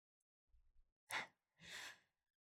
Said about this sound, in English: I love that you just gasped.